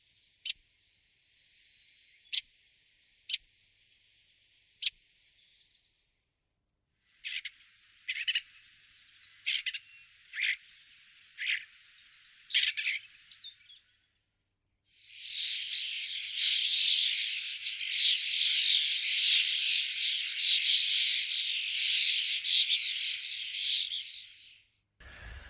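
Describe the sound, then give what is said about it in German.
A starling sings alone, mimicking other birds: a few sharp, evenly spaced clicks, then a string of varied whistles and chirps, ending in a long, dense burst of rapid chattering and warbling. “Zum Beispiel der Star, das ist der häufigste Vogel bei uns, der andere Vögel nachmacht.”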